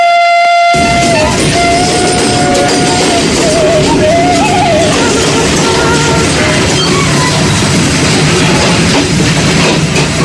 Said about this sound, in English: The roaring sound train diesel machine takes us to a place which amazes both natives and foreigners, named Kampung Naga.